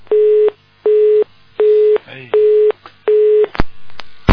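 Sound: telephone busy tone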